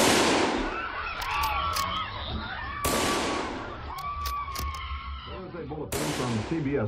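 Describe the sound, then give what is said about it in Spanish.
Three loud, sharp gunshots ring out about three seconds apart, each trailing into a long rumbling decay, with faint warbling tones drifting between them. They represent the three shots fired at President Kennedy's motorcade in downtown Dallas, Texas. “In Dallas, Texas, three shots were fired at President Kennedy's motorcade in downtown Dallas.”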